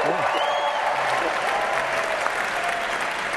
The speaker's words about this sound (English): Is that everybody applauding out there? Yeah, mm-hmm. they're excited for your Ohio patriotism.